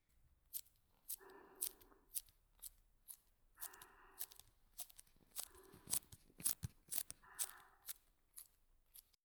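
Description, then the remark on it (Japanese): A utility knife cuts into a tape ball made of many layers of vinyl: four rasping, squeaky strokes spaced a couple of seconds apart, surrounded by sharp clicks and crackles of plastic, with no talking. “このカッターのサンドバッグになるのは、こいつだ。”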